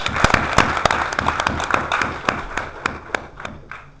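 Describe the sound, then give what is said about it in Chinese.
An audience applauds warmly for about four seconds to welcome guests at a meeting, many hands clapping in a dense, crackling wash with sharper individual claps standing out, thinning slightly toward the end. No one speaks. “让我们以热烈的掌声再次对他们的到来表示热烈的欢迎”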